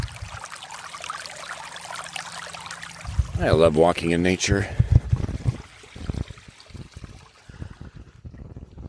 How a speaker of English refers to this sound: Let's stop for a moment here because I come across a creek with this lovely little babbling water.